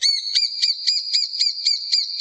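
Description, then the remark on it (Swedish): A lesser spotted woodpecker calling, a steady run of about nine shrill, piping notes at an even quick pace, clear with no other sounds. “Den som heter just mindre hackspett.”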